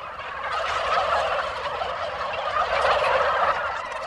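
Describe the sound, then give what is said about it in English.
A crowd of white turkeys with bright red wattles on a turkey farm gobbles nonstop, their rattling, warbling calls overlapping into a dense, steady chorus that stays loud throughout, with no one speaking. “Each turkey looks the same, like a small white ostrich with a bright red wattle and sky blue stain around its eyes.”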